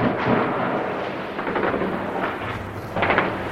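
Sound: bursts of gunfire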